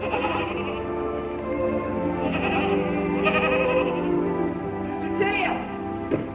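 Several goats bleat in a steady overlapping chorus, wavering cries rising and falling, with a few sharper bleats standing out toward the end.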